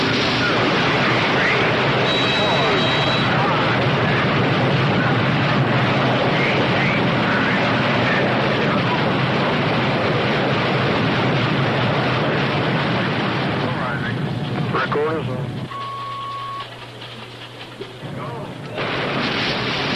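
rocket launch roar

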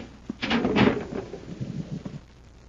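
concealed door opening

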